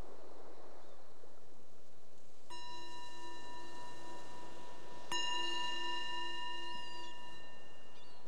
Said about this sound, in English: So the bell is the invitation to bring the awareness back to the surface, to our surroundings.